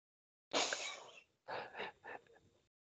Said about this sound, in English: I'm going to sneeze.